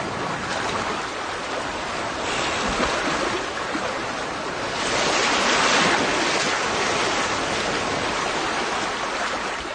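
Steady ocean surf washes continuously over a reef, a broad rushing hiss that swells louder midway as a bigger wave surges in, then settles back. No voices.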